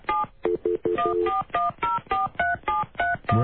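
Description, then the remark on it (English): A rapid run of telephone keypad tones as a Baltimore phone number is dialed to call someone back, about a dozen short beeps in a steady rhythm, each a pair of pitches, clear with brief gaps between presses. “Call him back.”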